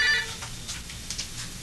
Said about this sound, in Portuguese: o telefone está chamando.